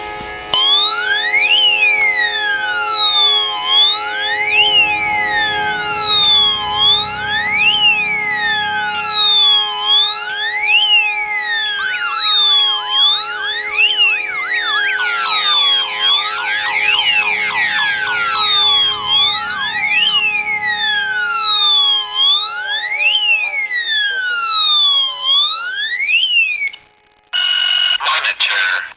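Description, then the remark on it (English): A loud electronic alarm siren of a home security system, deliberately triggered as a test, wails continuously, its rising and falling sweeps repeating rapidly for the whole stretch before cutting out briefly near the end and resuming. “Now I'm going to trigger the alarm to see how long it's going to call my cell phone.”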